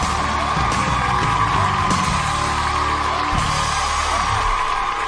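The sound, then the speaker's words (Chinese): Steady, dense audience applause fills the whole clip without letting up, a continuous wash of clapping with a few scattered whoops and cheers mixed in. “好， 好，掌声再次送给你。”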